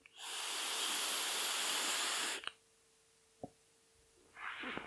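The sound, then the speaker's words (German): A long, steady breathy hiss of someone drawing on a vape filled with a citrus, cereal and milk flavoured liquid for about two seconds, then a soft click, a brief pause, and the start of a second airy exhale. “Die Dampfe wäre lauter. So mal als Vergleich, also Freunde, Zigarette habt ihr gerade gehört.”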